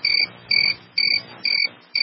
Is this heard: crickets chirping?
yes